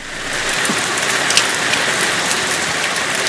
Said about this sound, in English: A steady rain was falling over Britain on December 15, 1944, and it was cold and foggy.